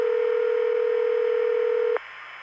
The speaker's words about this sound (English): And now the destination office finds the line and starts ringing.